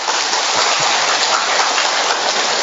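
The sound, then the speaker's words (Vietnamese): A crowd claps steadily and loudly, a dense, continuous crackle of many hands that holds an even level for a few seconds with no voices on top. “Xin mời cùng vui với con hãy cho một chàng vỗ tay được không ạ?”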